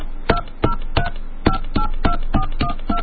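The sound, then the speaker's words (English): A fake phone number, dialed as 1, an area code and the number, is punched in on a telephone keypad as a quick series of about nine touch-tone beeps, short and clear with brief pauses between them, over a faint background hum. “make a call, dial 1, area code, and phone number now.”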